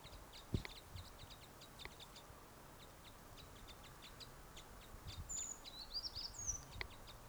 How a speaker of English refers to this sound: There's the calls of the flock.